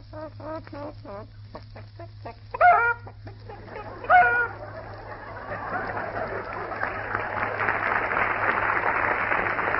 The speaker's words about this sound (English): Boy, one of those hens certainly made a lot of fuss. Yeah, she was proud of herself